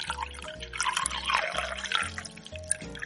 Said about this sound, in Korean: 커피 머신으로 따뜻한 커피 한 잔을 내려서 마십니다.